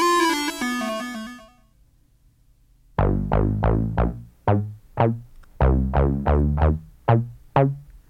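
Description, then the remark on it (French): A brief buzzy electronic tone fades out, then after a pause a punchy funk bass riff on an ARP Odyssey synthesizer (released 1972) plays alone, with short, bouncy, syncopated notes repeating in a loud groove. “Et en musique, ça donnait quoi?”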